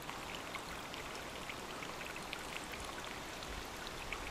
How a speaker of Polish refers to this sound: A tu w Turtulu bobry zbudowały tamę, która spowodowała, że nasza ścieżka oblewana jest przez płynący wartko potoczek. Nadaje to niezwykłego uroku temu miejscu i też właśnie ten szum wody działa uspokajająco.